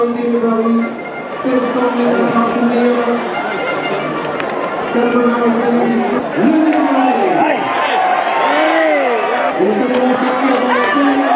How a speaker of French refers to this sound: cette fois il a pris le meilleur sur ses adversaires pour franchir la ligne d'arrivée en tête pour la plus grande joie de son entraîneur et sous les acclamations du public qui a donné de la voix à dès le départ jusqu'à la fin de l'épreuve.